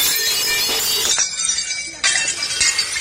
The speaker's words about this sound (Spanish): Miren, la hostelería, seguramente han visto ustedes esta imagen a lo largo del día de ayer y sobre todo han escuchado este sonido, el de los platos rotos.